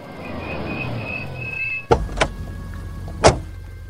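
Someone gets into a taxi while it is raining: a car door opens and thuds shut, with a few solid thumps after a steady hiss and a faint motorized whine, all inside a quiet vehicle with no talking.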